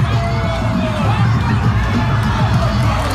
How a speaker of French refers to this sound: Autre image sur les réseaux, tandis que là on entend donc la foule qui immobilise cet homme qui menace les assaillants, qui menace les manifestants avec un arc.